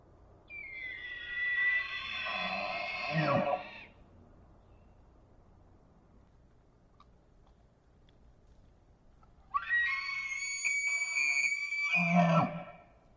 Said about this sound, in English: That distinctive sound is elk bugling. The high-pitched sound comes from the male elk that bugle during the breeding season to attract potential mates and to establish dominance.